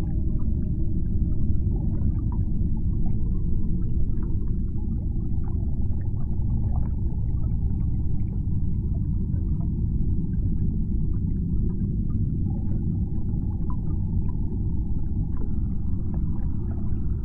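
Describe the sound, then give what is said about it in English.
Whale song rises and falls in long, faint tonal calls over a steady, deep underwater rumble, continuing throughout with no voices present. “Take time to enjoy this encounter with the whales and let your thoughts flow with their song.”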